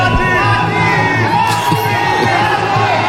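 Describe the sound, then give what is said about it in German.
A dense crowd of fans screams and cheers continuously on the red carpet at an honorary award ceremony for a US film director, loud, with high-pitched shrieks and whoops rising over a steady roar of many voices. “da schreien die Scorsese-Fans”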